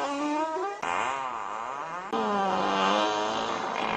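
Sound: farting noises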